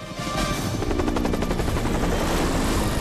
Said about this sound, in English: Tony and Greg Seaton look up as the aircraft come in low overhead.